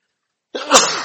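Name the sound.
sneeze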